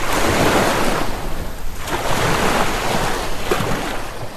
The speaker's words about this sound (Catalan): avui viatgem amb aquests sons al mar.